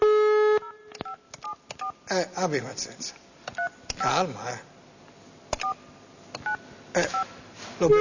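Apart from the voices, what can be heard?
telephone keypad dialing tones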